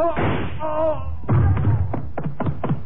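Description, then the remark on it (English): A run of sharp, fairly loud knocks on a door, coming in a quick irregular series, with a murmur of voices underneath. “Somebody at the door.”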